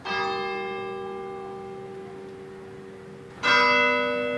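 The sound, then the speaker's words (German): A church tower clock bell less than 50 meters away strikes twice for 9:30 in the town of Maranello, a town of 17,000, each loud, ringing stroke followed by a long, slowly fading hum. Clear, with no voices, just faint background hiss between strikes. “Die Glocke der Kirchturmuhr, keine 50 Meter entfernt, schlägt 9:30.”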